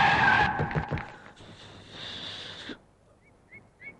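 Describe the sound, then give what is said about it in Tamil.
A mini bus skids to a stop: a loud, harsh tire screech with rumbling engine noise, a sustained scraping slide, then sudden quiet broken by a few faint chirps. “அம்மா மினி பஸ்ஸா ஒண்ணுக்கு இருக்க நிப்பாட்டினா ஒரே ஓட்டுனர் வெடிகுண்டு முருகேசர்.”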